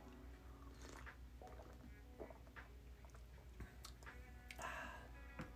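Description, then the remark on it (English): Someone takes a sip of a drink, with soft slurping, wet mouth clicks and a swallow over a low, steady background hum. No one speaks. “Give me 1 second, let me take a sip.”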